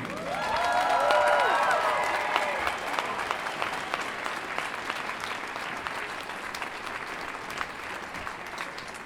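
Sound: thunderous applause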